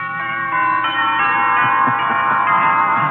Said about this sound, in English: Wedding bells.